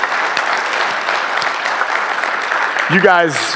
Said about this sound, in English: Would you do me a favor? Just give him a big round of applause.